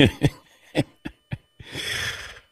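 Several harsh, throaty, guttural coughs in quick succession, fairly loud, followed by a longer raspy, hacking exhale. No one speaks.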